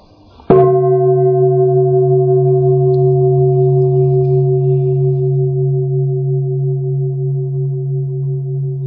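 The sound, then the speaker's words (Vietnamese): A single bell is struck once during a breathing meditation, most likely a meditation or singing bowl, with a sharp onset followed by a long, steady resonant hum that sustains for several seconds, with no talking. “Bây giờ mà các vị nghe tiếng chuông và tìm thử hơi thở tự nhiên của mình nha.”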